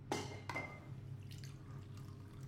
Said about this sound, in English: He pours coffee.